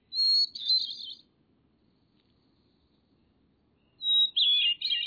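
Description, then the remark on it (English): A small brown mountain bird sings two bright, high, fluttering phrases separated by a pause of quiet, heard clearly with no talking. “You can listen again to this small brown bird and many others when you come to our website”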